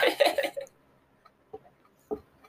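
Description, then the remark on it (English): A chicken squawks loudly for half a second, then falls quiet before giving two short, isolated clucks. There is no talking. “All the chicks that I see are actual chickens.”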